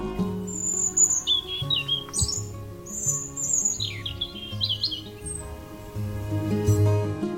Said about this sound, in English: Robins are a signal of winter, and while they may look very cute, they're fiercely territorial, and their song is actually warning other robins away.